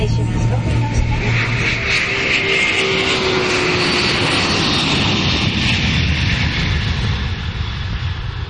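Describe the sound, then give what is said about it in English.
A loud, steady airplane engine roar builds during takeoff, with a broad rushing drone and a rising whine that fills the whole clip. “We hope you enjoy your flight today. Now sit down and shut up, and here we go.”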